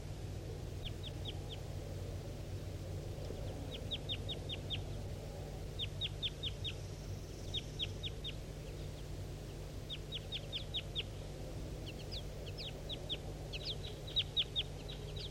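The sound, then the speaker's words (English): A male wild bird calls repeatedly in quick bursts of three to five high, sharp chirping notes, separated by short pauses, over a steady low background rumble. “So recording the wild bird.”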